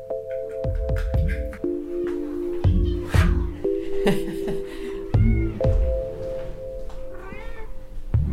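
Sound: cat meowing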